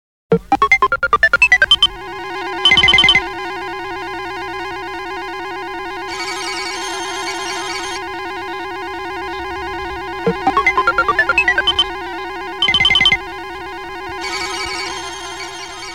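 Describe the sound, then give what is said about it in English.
A radio business-report intro: a quick rising run of electronic beeps, a short buzzy blast, then a sustained chord of tones with a hissy wash. The sequence plays twice, loud, with no voices. “Next is the sound introducing business reports.”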